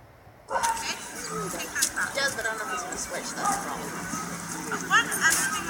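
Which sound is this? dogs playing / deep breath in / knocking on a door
dogs playing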